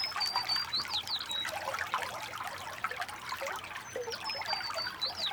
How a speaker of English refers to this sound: So let's take a moment and relax to this soothing, babbling brook.